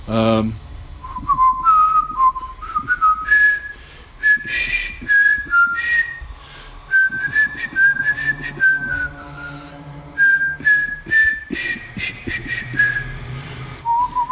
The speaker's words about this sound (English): What should I whistle?